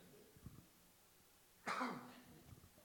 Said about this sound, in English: 1 second, cough break. There may be some more of those. Hang on. I'm getting another cough drop just in case.